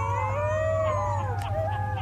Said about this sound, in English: That's a group of howling wolf pups. If biologists hear those sounds, they can theoretically find dens and maybe confirm wolves are breeding.